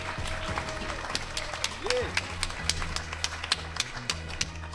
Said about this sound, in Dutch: Dames en heren, mag ik een heel erg groot applaus voor